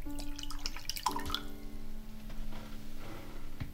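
Whiskey glugs from a bottle into a glass as a woman pours herself a drink: a short gurgling pour with a bright ringing tone that rises as the glass fills, then quiet settling sounds with no voices.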